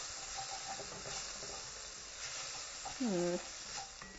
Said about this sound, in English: Ooh, this chicken is sizzling kind of a lot.